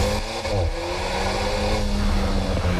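A new Alpine sports car, built in Dieppe, France, with a new turbocharged 1.8-litre 252-horsepower engine, revs hard and accelerates, a loud, steady roar with rising harmonic tones and no voices over it.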